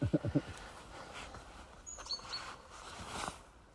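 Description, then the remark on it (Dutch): A few short, high, thin chirps from a great tit, fairly faint over an outdoor background hum, preceded by brief low voiced sounds at the very start. “En hier hoor je dus een koolmees.”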